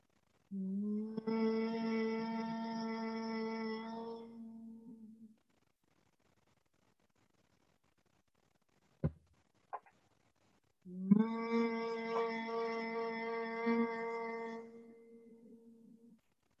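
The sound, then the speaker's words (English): Two long, steady hums of Bhramari pranayama (humming bee breath), leading into yoga nidra practice, each lasting about four to five seconds with a rich buzzing tone, separated by a pause of silence broken only by a couple of soft clicks. “And we'll journey into yoga nidra with the sound of Brahmari, humming bee breath, joining in when you're ready, gently humming.”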